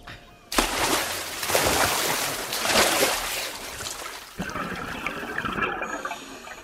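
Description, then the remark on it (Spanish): Three divers with oxygen tanks jump into the sea: a sudden loud splash gives way to several seconds of churning, rushing water, then a shift to muffled bubbling and gurgling as they sink beneath the surface. “Los tres marineros, pertrechados con sus botellas de oxígeno, se disponen a saltar al agua.”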